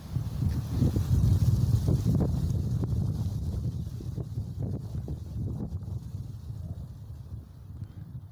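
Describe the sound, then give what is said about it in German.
Steady wind gusts through forest leaves, a continuous low rushing roar with faint scattered rustles, strongest early on and easing slightly toward the end. No voices are heard. “Ein Wind ist aufgekommen und raschelt durch die Blätter des Waldes.”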